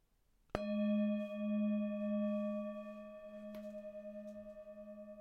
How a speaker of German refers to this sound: Und wenn der Gong ertönt, dürfen Sie Ihre Augen schließen und so lange geschlossen lassen, bis der Gong am Ende der Übung wieder erklingt.